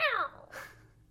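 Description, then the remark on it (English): A single short, high meow with a falling pitch, fairly clear, followed by a soft breathy rustle and then quiet. “Cat sound.”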